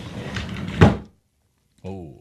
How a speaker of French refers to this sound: un tiroir. Et c'est une bonne réponse. Mon Dieu! Oui, parce que moi, je suis habitué de... C'était un son très rare à l'époque à la maison. On les fermait jamais, les tiroirs.